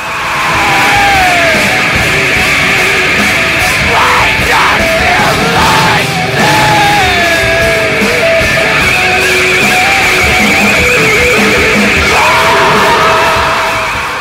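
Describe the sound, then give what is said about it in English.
Hoarse, strained screaming vocals repeat the line "Why don't you like me?" over and over on top of a loud, distorted wall of rock instruments, the voice straining in long yelled phrases without a break. “screaming, "Why don't you like me?" over and over again.”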